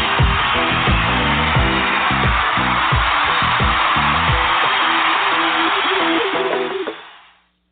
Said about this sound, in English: I swear, every time I hear that applause, it sounds like fish cooking in deep grease.